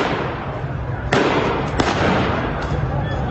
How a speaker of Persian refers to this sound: شلیک مستقیم به معترضان بی آبی.